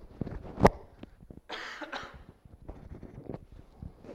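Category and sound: human body sound, coughing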